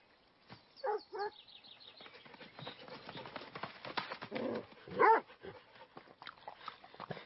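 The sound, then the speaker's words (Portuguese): A small dog barks in a few short, sharp bursts, one pair early and a louder one later, with light birdsong and background rustling in between. “Oi, cachorrinha. Como chegou aqui?”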